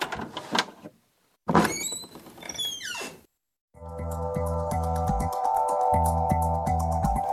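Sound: sliding doors opening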